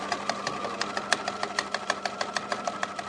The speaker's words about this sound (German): Nähmaschine.